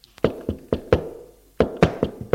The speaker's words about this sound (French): L'on frappe à la porte.